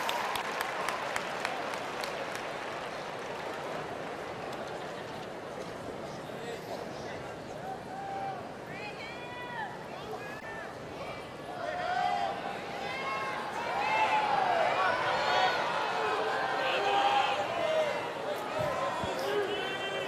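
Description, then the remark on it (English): A large crowd at a dog show applauds and cheers steadily, calling out names, with scattered shouts and calls rising above the noise, swelling louder toward the end. “Crowd is really getting into this. Yeah. They're calling out names.”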